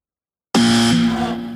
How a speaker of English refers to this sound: All right, here's my buzzer where it was.